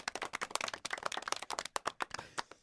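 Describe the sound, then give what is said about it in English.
A quick burst of hand clapping for the baseball pitching outing of Majinski and Harrington: sharp, crisp claps in a fast, slightly uneven rhythm, some overlapping, steady in loudness for a couple of seconds with no voices. “Deserves a clap there.”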